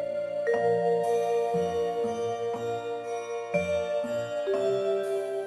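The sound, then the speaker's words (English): Bright, magical orchestral music with woodwinds, cymbals and the glittering chime of celeste and bells, moving in lively, ornate runs at a steady moderate volume, with no voices. “Oh, you start hearing a lot more brightness, lots of woodwinds, a lot more ornate runs and celestes and cymbals and bells and kinds of things that are added to this.”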